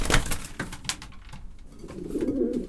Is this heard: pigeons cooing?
yes